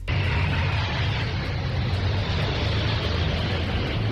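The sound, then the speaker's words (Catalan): Army military jets, practising for the 12 October military parade, roar overhead in a loud, unbroken wash of engine noise with a deep rumbling low end, heard inside the Congress of Deputies during a session, holding steady for about four seconds with no voices. “Són avions de l'exèrcit que estan fent pràctiques per la desfilada militar, precisament, que es farà dimecres que ve, 12 d'octubre.”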